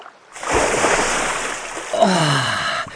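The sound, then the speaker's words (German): A sudden splash as a young seal jumps into cool sea water, followed by a couple of seconds of churning, bubbling water, with a second surge of splashing near the end. “Wenn er von der Sonne durchwärmt ins kühle Wasser sprang, kribbelte sein Fell so schön, dass es fast nicht zum Aushalten war.”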